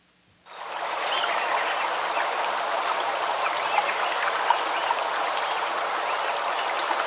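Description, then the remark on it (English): A stream flows steadily through Lincoln Meadow a year after selective logging, its continuous hiss and babble of water starting abruptly after a brief moment of quiet and holding an even, moderate loudness throughout, with no voices. “And this is Lincoln Meadow a year later after selective logging, and you can see that the stream is still represented in the bottom half of the page, but notice what's missing in the upper half.”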